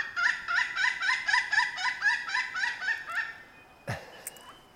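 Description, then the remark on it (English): A woodpecker gives a fast, laughing series of about a dozen bright, evenly spaced calls, fairly close and loud, trailing off before a brief sweeping chirp near the end. “Sounds like they're laughing.”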